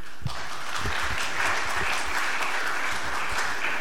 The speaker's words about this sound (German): Applaus.